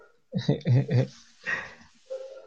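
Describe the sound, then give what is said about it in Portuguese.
A dog barks a few times in quick succession, then lets out a couple of scattered, fainter yelps, moderately loud, with no clear speech over it. “Agora que eu já tava conseguindo pegar o ritmo, aí apareceu o cachorro.”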